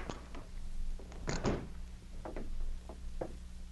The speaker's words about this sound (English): Then they went into the hotel and found out Thomas Shelley's room number from the desk clerk. A few minutes later, they knocked on his door.